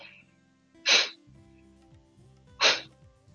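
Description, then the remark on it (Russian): Two sharp, forceful hissing breaths from a pranayama breathing exercise, about a second and a half apart, each a loud, airy burst that stops quickly, with quiet low hum between them and no talking. “Ну, примерно так вот там слышно, наверное, там с шипением.”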